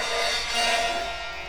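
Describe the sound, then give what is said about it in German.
The creaking door of a bell tower creaks open at night in one long, drawn-out groan lasting over a second, fairly loud, with no voices around it. “Die quietschende Tür geht auf.”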